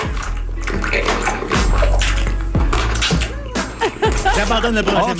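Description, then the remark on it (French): Loud, wet chewing and smacking as a man eats homemade chicken wings with mambo sauce noisily, with squelchy bites and lip smacks running continuously for several seconds, no clear speech. “Là, il mange de façon très sonore.”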